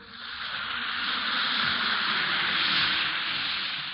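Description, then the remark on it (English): An Alka-Seltzer tablet fizzes in water: a steady, dense fizzing hiss, rising slightly and holding for several seconds, with no voices. “Listen to it fizz.”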